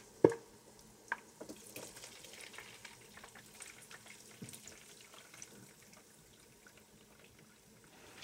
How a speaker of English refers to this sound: She then pours the lard into a glass mason jar, where it'll sit on the counter for several days, turning from a golden liquid into a white solid.